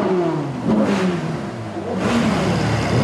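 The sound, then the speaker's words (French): Several car engines rev loudly and repeatedly as car club friends honour the dead at a funeral at the church of Bozel, Savoie, France, their pitch rising and falling in overlapping surges, with a dense roar and no voices. “Les copains de leur club automobile font retentir leur moteur pour les accompagner une dernière fois.”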